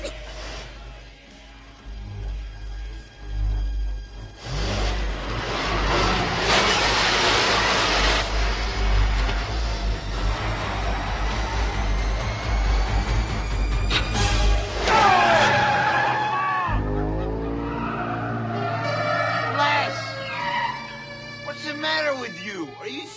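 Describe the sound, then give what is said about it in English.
A car engine roars and revs hard for over twenty seconds in a race, loud, with a deep rumble, screeching tires and rising whines near the end, and voices mixed into the din. “Hey, girls, whose car are you driving, Grandma's? Come on, race.”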